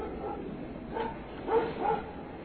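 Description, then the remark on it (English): A dog barks and yips in three short bursts over a steady background hiss with no one talking. “Fucking ass dogs.”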